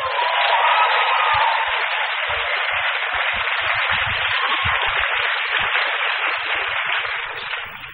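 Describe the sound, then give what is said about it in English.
Sustained applause from a large audience, a dense, steady wash of clapping at full volume with scattered cheers mixed in, holding evenly for the whole stretch without fading. “But I want too much applause.”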